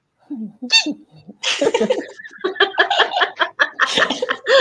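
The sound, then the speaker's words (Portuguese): A person imitates a cat digging its claws into a plywood baseboard, with short vocal mews, then a burst of hissing, scratchy mouth noises and breathy, laugh-like sounds continuing in uneven spurts. “Como é que o gato faz?”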